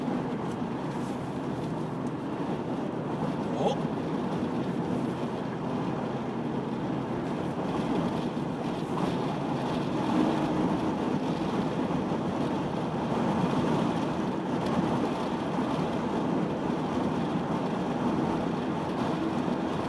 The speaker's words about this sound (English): Wind is picking up as we get closer and closer to the bridge.